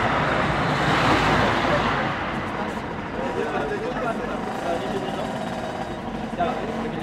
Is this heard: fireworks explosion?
no